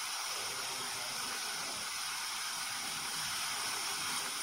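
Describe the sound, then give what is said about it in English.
A pressure cooker that has been on for 3 minutes lets off steam in a steady, loud, unbroken hiss, bright and airy, holding an even level for the whole few seconds with no voices over it. “So I'm going to use this pressure cooker analogy here, and we're going to see a nice video of a pressure cooker giving out its steam.”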